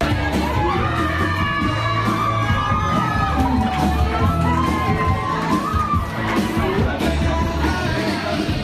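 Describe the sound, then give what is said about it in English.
A crowd of about 100 people, including media, airport staff and the town's mayor, cheers and shouts continuously in the narrow international arrivals area of Queenstown airport, welcoming the first international visitors in over a year, with excited yells, whoops and overlapping voices at a steady, loud level. “A crowd of about 100 people, including media, airport staff, and the town's mayor, crowded into the narrow international arrivals area this afternoon, ready to welcome the first international visitors into Queenstown in over a year.”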